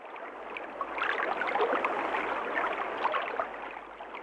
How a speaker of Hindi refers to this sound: लेकिन बरसात के मौसम में क्या होता है? लो, सब तरफ पानी ही बहने लगता है।